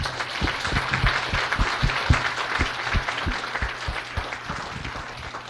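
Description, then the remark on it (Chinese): A church audience applauds in praise of God steadily for several seconds, a dense wash of many hands clapping with sharper individual claps standing out in an uneven rhythm, fairly loud and sustained throughout. “我们再一次鼓掌。”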